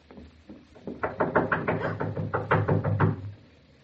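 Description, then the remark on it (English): Knocking on a back door at night, not the wind: a rapid series of hard, even raps, a brief pause, then another quick burst of loud knocks before it stops. No voices. “It is the back door. And it is not the wind.”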